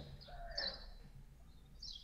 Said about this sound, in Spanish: Ahora, escucho que estás en un lugar con pajaritos y por ahí un búho. ¿Dónde estás? En un parque.